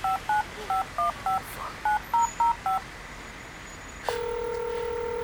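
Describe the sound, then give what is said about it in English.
A quick series of about ten touch-tone beeps as a phone number is dialed, then a pause and a steady, unbroken telephone tone that holds to the end. No one speaks. “Pick up the phone, man. Pick up the phone, nigga.”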